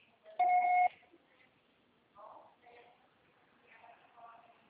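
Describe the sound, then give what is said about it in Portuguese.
A single steady electronic voicemail beep, the signal to record a message, sounds loudly for about half a second, then soft murmuring voices follow. “Grave seu recado agora.”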